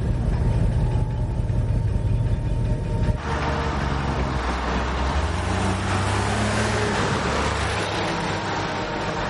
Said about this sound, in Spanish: El autobús pasa de largo. El coche de los policías da marcha atrás. Ambos observan el autobús alejándose.